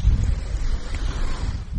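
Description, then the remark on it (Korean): Ocean waves rumble steadily under gusting wind at a beach on the Outer Banks, North Carolina, USA, in summer, a continuous low roar with wind buffeting the microphone, no distinct breaks between surges and no voices. “바람 소리와 섞여 있는 이 파도 소리.”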